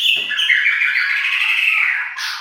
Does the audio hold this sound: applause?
no